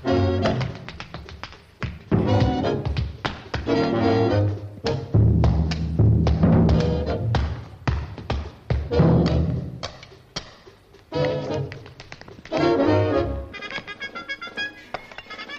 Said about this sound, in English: Sorry, there was a moment, that light percussion moment was Fred Astaire hitting his own head with the drums.